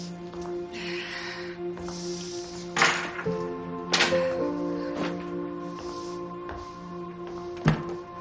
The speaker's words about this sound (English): Elsewhere, she throws her keys on a table as she enters an apartment with a balcony view onto the city.